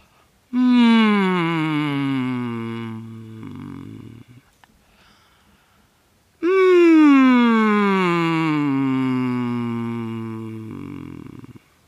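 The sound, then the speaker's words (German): As a vocal exercise, a voice hums two long sustained tones, keeping the back of the throat open as in a yawn. Each tone slides slowly downward in pitch and trails off into a low, buzzy rumble, with a short pause between them. No words are spoken. “Dann mit dieser Offenheit des Gähnens im hinteren Rachenraum gehen Sie bitte in ein Summen über, ungefähr so.”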